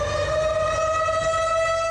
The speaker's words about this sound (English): tornado sirens rang out ahead of several reported twisters. At least eight tornadoes touched down in four counties in northeastern Illinois.